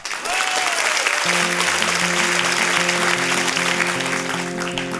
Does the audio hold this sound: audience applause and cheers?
yes